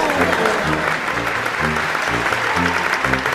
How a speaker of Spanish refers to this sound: Reciba este aplauso del público.